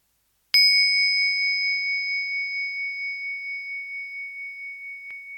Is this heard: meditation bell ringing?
yes